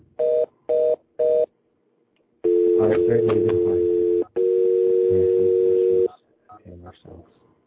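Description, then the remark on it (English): Three quick, evenly spaced dialing beeps as a phone is dialed for a radio interview, then a loud, steady telephone dial tone humming for several seconds with a brief break, overlaid by muffled voice-like sounds, and a few short beeps at the end. “We're dialing the phone, and this is my dialing song.”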